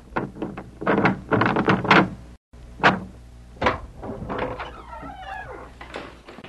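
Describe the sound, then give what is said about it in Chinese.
The door of a house is unlatched and pulled open for a visitor, with a quick series of rattling clunks and knocks, then a brief creaking scrape as it swings. No one speaks. “我来开门。”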